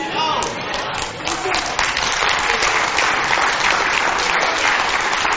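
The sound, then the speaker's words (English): An audience claps together in sustained, dense applause, giving Jesus Christ a hand clap of praise, a steady loud wash of many hands with no single claps standing out, lasting the whole stretch. “give Jesus Christ a hand clap of praise.”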